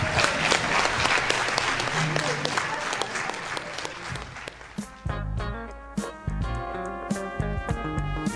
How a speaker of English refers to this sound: let's give our speakers, Alyssa and Chris, one more round of applause